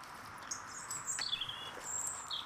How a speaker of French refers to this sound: Et la nature se réveille. Disons que tant que les oiseaux chantent, tout va bien.